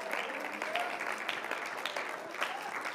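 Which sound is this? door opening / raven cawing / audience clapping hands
audience clapping hands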